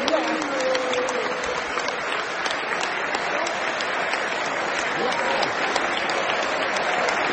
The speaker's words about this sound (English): And here comes Graham Potter towards us. Yeah, he's applauding the fans.